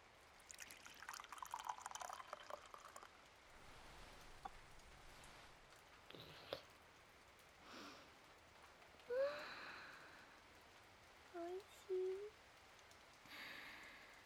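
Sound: steady rain falling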